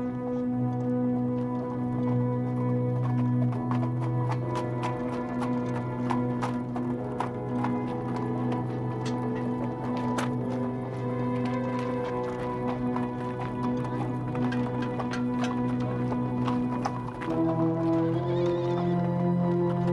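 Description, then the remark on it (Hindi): Horse hooves clip-clop in a steady, repeated rhythm over a loud, sustained musical drone, with no one speaking. “मेरे घोड़े की नाल लगाओ।”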